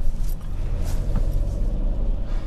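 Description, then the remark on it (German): A steady low engine rumble from a passing car, continuous and fairly loud, with road noise and brief hissy swells over the drone. “Willst du mit dem Auto in der Bäckerei fahren, oder?”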